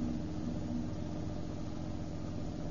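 A car engine hums steadily at low speed as the car pulls in, a continuous rumble with an even level throughout and no voices.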